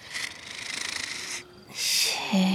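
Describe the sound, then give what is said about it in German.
A voice imitates the snoring of a soft, soundly sleeping sheep: a long, breathy, raspy intake with a fluttering rattle, a brief pause, then a hissy exhale that ends in a low, steady hum. “Und das weiche Schaf schlief tief und fest und schnarchte so.”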